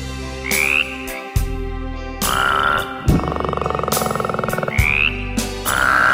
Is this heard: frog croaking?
yes